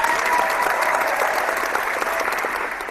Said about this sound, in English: So cheers to that. Big round of applause for everybody.